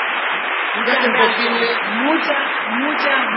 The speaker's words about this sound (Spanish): Un aplauso para todas las empresas.